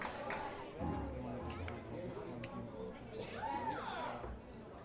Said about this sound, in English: Pretty good crowd here today, though. Some fans have bought some ponchos.